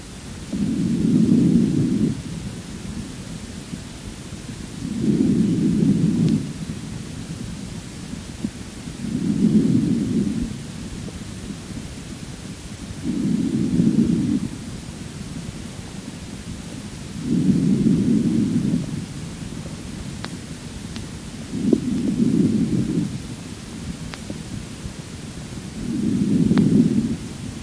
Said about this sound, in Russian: Поэтому везикулярное дыхание представляет собой мягкий по характеру шум, который в основном определяется в течение фазы вдоха. Прослушайте везикулярное дыхание.